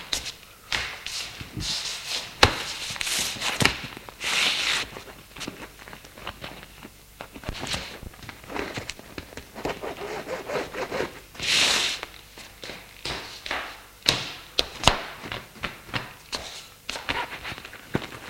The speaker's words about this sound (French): Son hôtel, il monte dans sa chambre. Sa valise sur le lit, l'ouvre et commence à faire ses bagages.